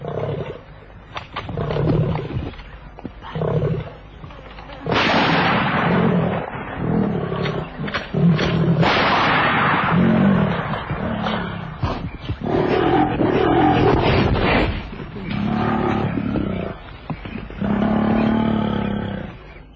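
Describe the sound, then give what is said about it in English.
A lion growls and roars in thick bush by a riverbed near a carcass, deep rumbling snarls that swell into loud bursts of roaring, continuing almost without pause for about twenty seconds, with no voices. “Growling stopped.”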